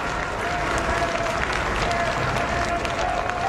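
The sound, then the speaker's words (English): A large crowd gathered outside Rome's Gemelli Hospital applauds steadily as Pope Francis appears on a balcony in a wheelchair and blesses them, a dense, continuous wash of clapping from many hands with faint voices mixed in. “He was pushed out onto the balcony of his room in a wheelchair and blessed the crowd gathered outside the hospital.”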